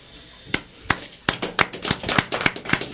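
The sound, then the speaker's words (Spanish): Audience applause for a singer being introduced, also meant for the songs to come. It begins with a few scattered claps, then quickly thickens into steady, moderately loud clapping from many hands, with no voices over it. “Unos aplausos que también van dirigidos a las canciones que vais a escuchar.”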